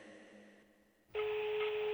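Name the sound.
phone ringing tone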